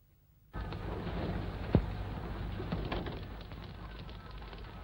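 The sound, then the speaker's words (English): Doves soar over Beijing amid a steady, broad wash of outdoor city noise with a low rumble beneath, interrupted by one brief sharp knock. No one speaks. “The soaring doves did not bring peace to Beijing.”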